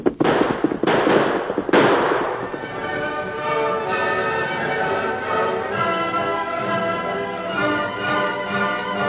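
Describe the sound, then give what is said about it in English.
Three loud gunshot cracks ring out in quick succession over the first two seconds during a Lone Ranger radio drama chase, then give way to a steady, sustained harmonic tone that continues at an even level. “Now, hold on there. I'll fire.”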